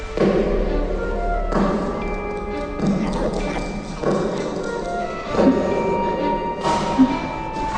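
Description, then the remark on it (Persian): Slow, evenly spaced footsteps, about six heavy thudding steps over a steady humming background with faint tonal drones, each step landing with a dull, moderately loud impact. “یه صدای پا میاد.”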